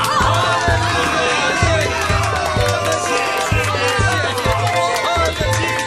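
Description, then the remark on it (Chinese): A church audience cheering to God loudly and without pause, a dense wash of overlapping shouting voices, with a steady rhythmic low thumping pulsing underneath throughout. “各位，到如今上帝都帮助我们，让我们向上帝欢呼吧。”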